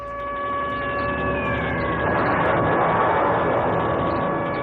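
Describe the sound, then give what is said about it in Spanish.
A sustained, wailing 1930s air-raid siren, of the kind that warned of approaching warplanes, holds steady tones, one sliding slowly downward, over a broad rumbling wash that swells in the second half; loud and continuous, with no voices. “Aquellas sirenas de los años 30 indicaban que los aviones de guerra se acercaban y las bombas pues hacían el resto.”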